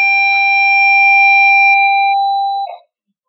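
A loud siren sounds alone in one steady, unwavering tone for nearly three seconds, then cuts off abruptly, leaving silence.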